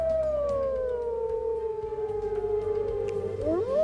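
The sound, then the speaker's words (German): A long, sustained wolf howl glides slowly downward in pitch, with a second voice joining and rising near the end; clear, no talking. “Wölfe, so wie hier, heulen sie gar nicht so oft, aber sind eher stille Tiere.”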